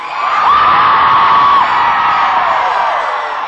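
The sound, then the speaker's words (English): An audience, asked to scream higher and longer, screams together in one loud, sustained, high-pitched roar lasting several seconds, with a piercing sustained shriek riding on top before the mass of voices slowly tapers off. “Let me hear one a little bit higher, a little bit longer than that.”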